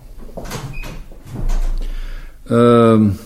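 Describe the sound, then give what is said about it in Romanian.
A door is pushed shut with a dull low thump followed by a loud, drawn-out creaking squeal, over faint background shuffling. “Închide ușa acum.”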